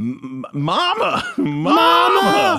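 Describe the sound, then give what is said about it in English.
A loud voice groans and moans in drawn-out, wavering tones, a few short grunts giving way to long sliding vocal swells, mimicking the heavy, labored breathing of a large man. “Heavy breathing of a large man.”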